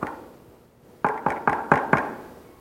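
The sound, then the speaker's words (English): Five firm knocks on a wooden door in quick, even succession, fairly loud, following a second of near silence. “He's knocking.”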